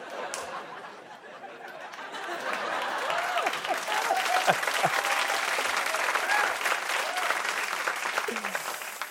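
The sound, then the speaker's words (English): A crowd applauds steadily for several seconds, a dense crackle of clapping that swells a little midway, with faint laughter and scattered murmuring mixed in. “I hope you're applauding for the writer who told me bread a care for all wouldn't work.”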